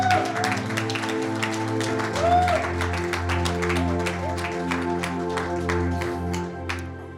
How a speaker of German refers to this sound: Lass uns doch Gott nochmal einen Applaus geben.